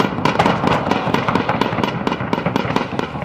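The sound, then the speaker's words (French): Rapid, continuous bursts of gunfire-like cracks and booming blasts as a US military C-130 aircraft opens fire in the sky over Barouz, a dense rhythmic barrage of sharp impacts over a loud rumbling background, with no voices. “Dans le ciel de Barouz, le bombardier C-130 de l'armée américaine ouvre le feu.”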